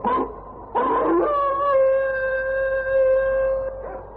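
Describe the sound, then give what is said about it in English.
Sled dogs howling: a couple of short, rough yelps give way to one long, steady, drawn-out howl that holds for a few seconds before breaking off. No one speaks. “What gives, Johnny? The dogs have found a sled trail, Lee.”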